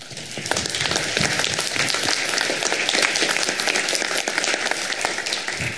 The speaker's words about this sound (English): please give a big round of applause to Chris Winkler and the high school staff for hosting us